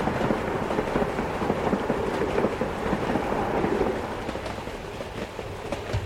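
A train rolls past with a loud, steady, rattling rumble that makes everything vibrate, filling the whole stretch and easing off slightly toward the end. No voices are heard.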